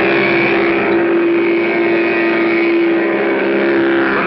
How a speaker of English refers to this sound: Well, you can make it roar with Mattel's terrific new Baroom hot rudder engine. Put it on a trike. You get your own special key. Start it like Dad's key starts his car. The remote control is up here where it belongs. Sounds like a real engine.